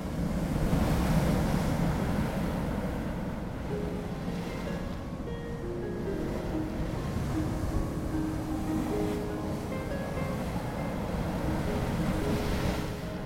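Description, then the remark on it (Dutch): Steady roar of sea surf and breaking waves at the Orkney Islands, where the North Sea meets the Atlantic Ocean, with gusting wind buffeting the microphone, continuous and fairly loud throughout, with a faint low engine-like hum underneath and no voices. “We steken de Noordzee over en komen op de Orkney-eilanden, gelegen op de grens van Noordzee en Atlantische Oceaan en berucht vanwege de woeste wateren.”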